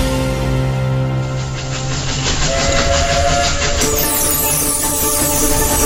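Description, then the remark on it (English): A steam train on the Isle of Wight Steam Railway rumbles steadily along the rails, loud, with a continuous mechanical roar and faint rhythmic clatter throughout, and a brief whistle-like tone partway through. “Operating on selected days in December, you will get to ride through the winter countryside on a 10-mile steam train round trip”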